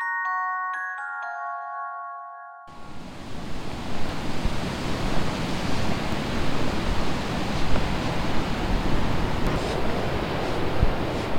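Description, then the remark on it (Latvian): A short run of clean musical tones opens, then gives way to a steady, rushing roar of sea surf, continuous and fairly loud, with soft swells and no voices; Baltic Sea shore near the Užava lighthouse in Latvia. “Šāds fons ir ierasts skaņa Užavas bākas tuvumā.”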